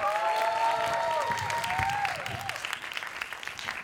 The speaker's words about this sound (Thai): คนแรกนะครับบาร์แรกของเรานะฮะเป็นของเพื่อนสนิทของผมครับขอเสียงปรบมือดังๆให้กับเพื่อนผมคนนี้ครับ